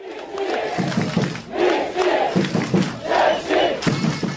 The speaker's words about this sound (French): Avant de reprendre toute leur ampleur, place de la Vieille Ville, c'est devant une place noire de monde que l'équipe victorieuse s'est présentée, applaudie et célébrée comme il se doit par des milliers de supporters enthousiastes.